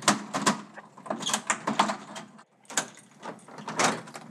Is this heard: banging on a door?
yes